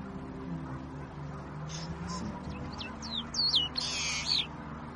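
A long-tailed meadowlark sings a short, high phrase of clipped notes and rising, twisting whistles that ends in a harsh buzzy burst, over a steady low rumble.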